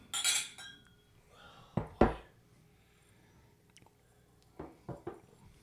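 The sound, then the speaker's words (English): Several sharp glassy clinks ring out in quick bursts as five glasses are clinked in a toast, a bright ringing chime at the start followed by scattered knocks and taps, fairly loud with no talking. “It's five glasses. Here you go. I definitely didn't give everyone 2.5 ounces. Cheers, boys. Oh, cheers.”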